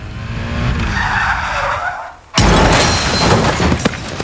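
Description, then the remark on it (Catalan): A long tire skid screeches for about two seconds as the car ahead brakes suddenly, then cuts into a loud, sudden crash of a motorcycle into it, with scattered impact and debris noise, harsh, no voices. “De camí a la feina amb la moto, el cotxe del davant frenarà de cop. I xocaré.”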